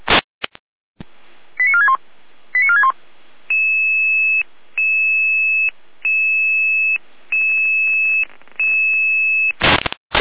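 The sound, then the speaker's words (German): A German dispatch radio alarm tone from Saalfeld-Rudolstadt alerting a Red Cross rescue unit: quick falling chirp sequences, then about six long, steady two-pitch beeps in a regular rhythm, loud, bracketed by bursts of radio static. “Jener Alarm.”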